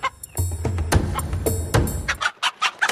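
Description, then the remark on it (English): A chicken gives a series of short, irregular clucks over a steady low rumble and a few soft thumps, with no one talking. “Farmers sometimes clip their wings to prevent them from hopping the fence, and this may be why people like me believe chickens can't fly at all.”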